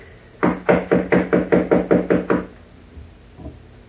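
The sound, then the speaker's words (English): A rapid series of about nine firm, evenly spaced knocks on the wooden door of a suite, knocking again to wake a woman asleep inside, followed by a faint thud and quiet. “Knock again, please, will you?”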